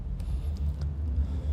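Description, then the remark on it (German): A car engine rumbles steadily as a car approaches in a video where the car, driven by a woman, hits a student. It is a deep low drone with no clear rise in loudness, accompanied by a few faint high chirps. “Ihr seht das Auto da kommen.”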